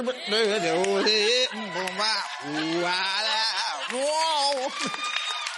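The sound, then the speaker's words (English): A voice mimics a chorus of sheep, drawing out wavering, quavering bleats in a sing-song choir style, loud, with several sustained bleating notes in a row. “You put all white people in there, it's that Sheep choir. Bringing in the sheep.”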